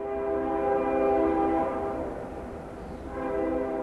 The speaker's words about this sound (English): The whistle is sort of a sound signature for Carroll, Iowa. Seems like the freight trains come through every 15 minutes.